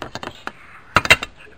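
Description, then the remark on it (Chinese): Dishes and plates being washed clink and clatter in a quick series of sharp knocks, a few early taps and then a louder cluster of clanks, with a soft murmur of activity in between. “好，啊，饼毋着洗洗起来，碗盘啊。”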